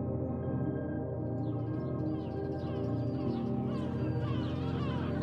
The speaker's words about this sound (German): Hunderte Möwen haben es sich hier gemütlich gemacht. Zur Brut und Aufzucht der Jungen sind sie hierher gekommen, um sich ungestört um ihre eigenen Familien zu kümmern.